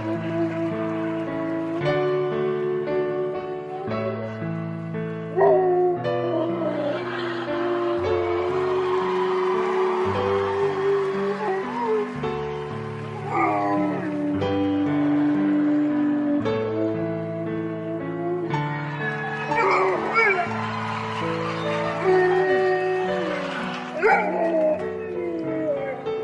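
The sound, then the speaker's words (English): A dog named Oscar howls and sings along to the classical piece Canon during a performance on America's Got Talent, its wavering, drawn-out howls rising and falling over steady, loud instrumental chords throughout. “her singing dog, Oscar, performing to the classical song Cannon.”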